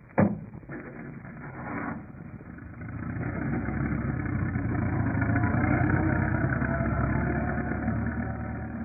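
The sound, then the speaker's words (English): After a sharp knock, a light truck's engine, parked by an aircraft hangar, turns over and catches, then settles into a steady low rumble that grows slightly louder as the vehicle drives off. “Well, let's grab that light truck over by the hangar and go after him.”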